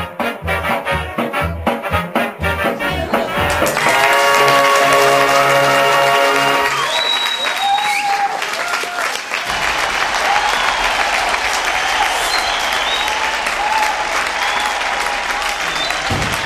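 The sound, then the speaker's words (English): Enthusiastic audience applause at the Playhouse for Project Audion and Larry Groby after a Jack Benny play, a dense wash of clapping that stays loud and steady throughout, with some music playing over the opening seconds. “And another shining stellar performance at the Playhouse as the crowd shows their appreciation to Project Audion and Larry Groby for this hilarious Jack Benny play.”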